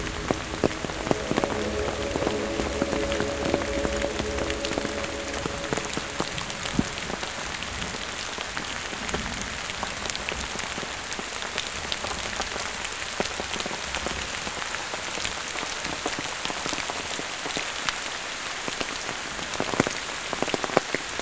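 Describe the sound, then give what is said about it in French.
Raindrops splash steadily on a path in heavily wooded terrain at the end of a thunderstorm, in a dense, crackling patter of countless small crisp drops, with a faint low hum underneath during the first few seconds and no voices. “Sur le chemin, le clapotis des gouttes d'eau.”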